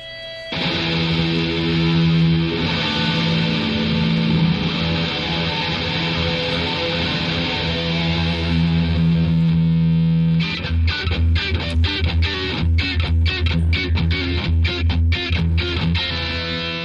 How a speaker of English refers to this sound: Listen to the sound of this axe, and this is just one guitar playing through the exact same amps